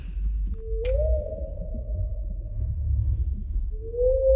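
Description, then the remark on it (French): A blue whale's call: a long, steady tonal moan that rises briefly and then holds, with a second call starting at the end, over a low underwater rumble and one sharp click. “Bonjour, belle baleine bleue.”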